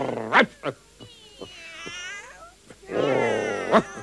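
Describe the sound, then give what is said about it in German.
At least 100 cats sitting on a garden fence meow and caterwaul at once, overlapping wailing cries rising and falling, loud, with sharp yowls bursting out at the start and end. “Hilfe! Am Gartenzaun hocken mindestens 100 Katzen.”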